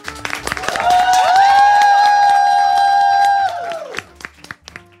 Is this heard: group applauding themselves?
yes